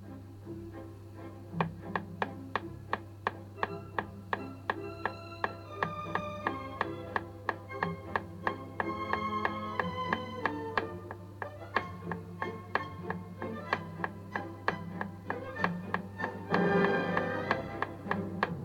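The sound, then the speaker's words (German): Steady, crisp taps repeat in an even rhythm for the whole stretch, keeping time over quiet background music with a low, sustained hum underneath. “Klopfe ich den Takt oder den Rhythmus dazu?”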